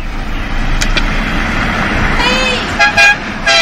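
A car rumbles past on a road, engine noise steady throughout, then its horn gives a few short, bright toots near the end.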